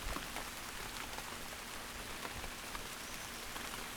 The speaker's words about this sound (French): Il pleut.